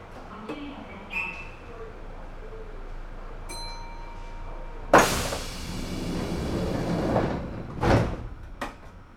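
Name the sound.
train sliding doors closing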